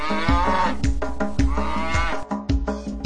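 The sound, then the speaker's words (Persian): Cows moo in long, drawn-out calls as part of a children's counting song, loud, repeating a couple of times over a steady rhythmic musical backing. “هشت و گاوه نازنازی مو مو مو میخونن.”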